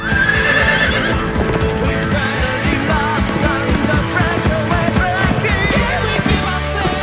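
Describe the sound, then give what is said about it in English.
A horse rears up and whinnies loudly and repeatedly as a man mounts it and takes the reins, its hooves stamping and clattering, the neighing rising and wavering over a busy, dense background. “The horse rears up.”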